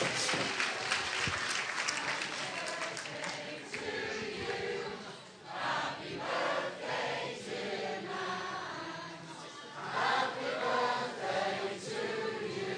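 An audience bursts into sustained applause, a dense wash of clapping that swells and dips in waves for several seconds, with a few whoops and cheers rising over it.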